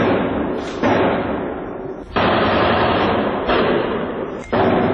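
Muffled, distorted explosions recorded on a mobile phone by an eyewitness near the Stade de France stadium in northeast Paris, where 80,000 spectators had gathered: three abrupt heavy booms a second or so apart, each jumping out of a constant loud roar of crowd-like noise.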